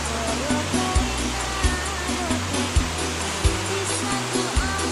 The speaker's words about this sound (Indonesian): ini dengan cuaca yang di lokasi saya ini sekarang sedang hujan, jadi mohon maaf bila suaranya ada sedikit ada suara-suara backsound hujan.